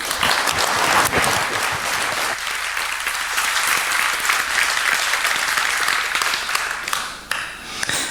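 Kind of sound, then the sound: crowd, audience applause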